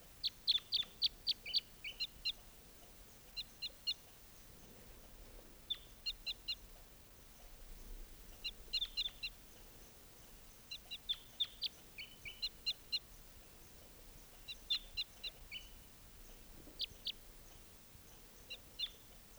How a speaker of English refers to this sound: So recording just captured that bird, and he'll be number 621.